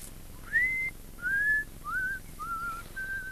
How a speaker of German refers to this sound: Onkel Einer ging da unten im Garten hin und her und pfiff vor sich hin.